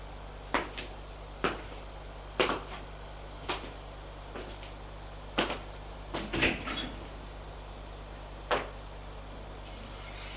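door opening and closing

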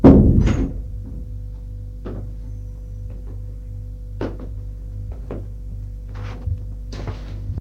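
door closing shut

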